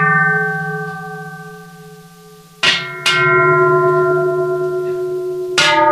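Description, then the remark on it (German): Three small bells ring together, their bright overlapping tones sustaining steadily, with fresh strikes landing a few times and swelling the shimmer. Loud, with no voices. “Und die 3 Glocken haben heute einen Wert von 20'000 Franken. Also 3 kleine Glocken.”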